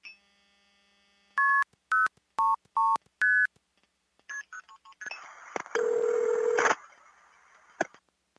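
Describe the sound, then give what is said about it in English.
Five crisp, evenly spaced beeper tones, phone signals used to control long-distance telephone switching systems from a phone or payphone, followed by a burst of short chirps and a harsh, buzzing data-like tone lasting over a second. “But with your beeper...”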